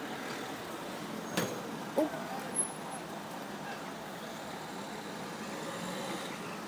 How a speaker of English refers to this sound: Meanwhile, you have some traffic noise from my balcony. Not very exciting.